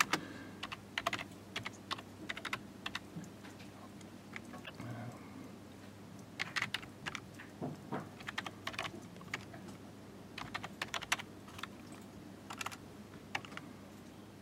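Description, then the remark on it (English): Irregular bursts of clicking keystrokes on a USB computer keyboard plugged into a computer module, typed while logging in, over a faint steady hum, with short pauses between flurries and no voices. “I've only got the keyboard plugged into the USB, and that's not going to draw very much current.”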